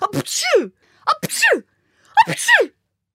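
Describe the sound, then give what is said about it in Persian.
Three sneezes in quick succession, each a short sharp intake followed by a loud burst, evenly spaced about a second apart, with no talking. “و سه بار پشت سر هم عطسه کرد.”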